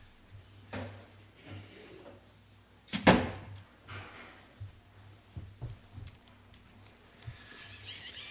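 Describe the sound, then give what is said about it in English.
Doors thud shut, one sharp bang standing out among softer knocks and shuffles, followed by a scraping, rattling sweep like blinds being drawn down, as people close the doors and pull the blinds. No one speaks. “People to close the doors and pull the blinds and then turn off the lights.”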